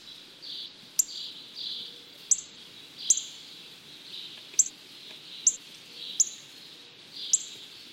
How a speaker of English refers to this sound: Cardinals also have a loud, distinctive chip note.